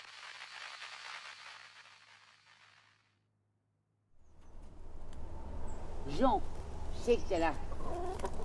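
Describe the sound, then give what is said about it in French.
A hen named Poule clucks in a short burst of several nasal calls over a low rumbling background, following a stretch of steady hiss and a brief moment of silence. “Chut, Poule, non, bouge pas, reste là, reste caché, faut pas qu'il nous voit.”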